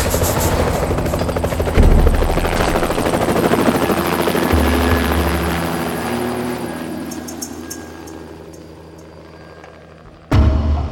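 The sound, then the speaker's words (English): A helicopter in a clearing: its rotor thumps steadily over a loud engine whine, sustained, with deep low-end pulsing that shifts partway through, then a sudden loud burst near the end. “10 minutes later, Anya was in the clearing, climbing into the helicopter next to Griggs.”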